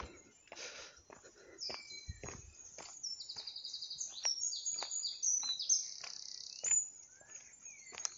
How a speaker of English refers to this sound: It's coming up to dusk, and you can really see the supermoon tonight, which is a great glow to the skyline. Also, the bird calls are abundant.